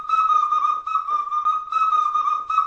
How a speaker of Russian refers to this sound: И был праздник свистунья, и он даже назывался свистопляска, потому что под этот свист люди плясали. Свистели взрослые, дети, старики.